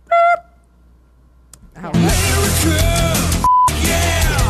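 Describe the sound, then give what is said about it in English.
A short, loud electronic beep sounds alone at the start; after a dense burst of music-like sound, a second clean, higher beep rings out during a brief pause. “I like how you just bob your head every time it beeps.”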